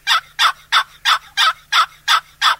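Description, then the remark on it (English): A basic high-low hen turkey yelp played on a one-piece box call: eight loud, raspy notes in a quick, even rhythm, with no talking and only a faint low hum behind. “You also turn the call over this way, and yelp.”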